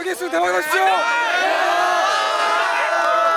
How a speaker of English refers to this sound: Shouting good luck on your exam, sophomores and juniors bring banners to cheer on and encourage the seniors taking the exam. These chants have become a tradition.